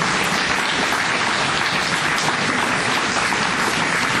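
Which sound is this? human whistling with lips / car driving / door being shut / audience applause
audience applause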